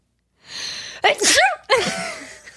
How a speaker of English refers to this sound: Wait, I'm going to sneeze.